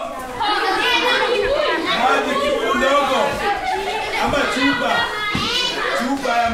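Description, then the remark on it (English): A crowd of children at Project Elimu, a ballet school in Nairobi, chatters over one another without pause, high voices rising into excited shrieks and bursts of laughter, loud and busy from start to finish. “Kids shriek and cackle.”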